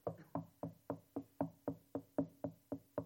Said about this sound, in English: Just a little knocking.